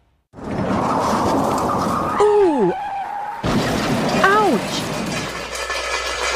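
Tires screech loudly with a wailing, falling pitch, then a sudden crash of impact and shattering glass, followed by a second squeal of skidding tires under a steady roar of noise.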